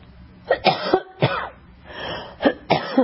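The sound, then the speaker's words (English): A burst of several harsh coughs in quick succession, with a brief pause between clusters, loud and alone with no talking. “I apologize, I have a cough.”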